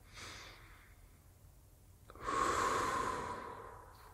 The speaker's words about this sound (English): We've been breathing.